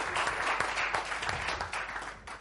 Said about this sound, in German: Let's put our hands together for Jesus. Lass uns Jesus klatschen. Hallelujah. Hallelujah.